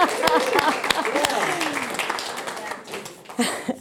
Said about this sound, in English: But I'm so happy to be here, so happy to have moved north to be with you. Yeah, I'll clap for that.